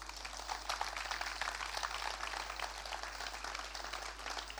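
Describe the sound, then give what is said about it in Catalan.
Sustained applause from an audience for everyone who contributed to an honorary distinction, a dense crackle of many hands clapping at a steady level for several seconds with no one speaking over it. “I demanaria per totes elles un gran aplaudiment.”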